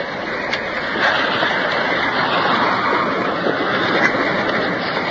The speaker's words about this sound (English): Coming up to the first waterfall. Pouring into a deep pool.